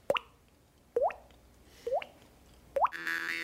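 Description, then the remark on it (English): Four hollow, upward-bending water-drop plops made by tapping a cheek over a mouth shaped into a cup while breathing through the nose, evenly spaced about a second apart, fairly loud, with a brief hiss after the last. “So you're making your mouth into a cup. You just tap on your cheek.”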